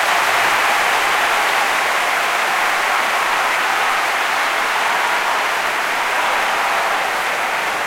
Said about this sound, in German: Und ja, das hier ist nochmal dein fetter Applaus, der ist nur für dich.